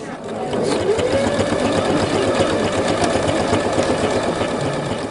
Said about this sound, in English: She's about to fire up her sewing machine.